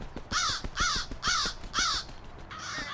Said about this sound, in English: Stupid fucking crows.